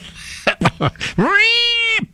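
A few short, choppy vocal sounds lead into one long, drawn-out meow from a Persian cat that rises in pitch and holds steady before cutting off, loud.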